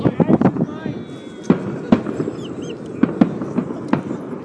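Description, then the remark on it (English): Distant New Year's fireworks celebrating 2011 pop and crack irregularly, several sharp bursts spaced across a few seconds over a murmuring outdoor background with faint voices. “Oh, there's some more fireworks over there.”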